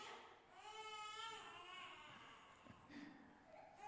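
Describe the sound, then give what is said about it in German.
A baby cries in the background, a quiet, wavering wail with drawn-out, rising and falling cries that continue through most of the few seconds, with no talking. “Vielleicht kriegt ihr das mit. Babys sind gut.”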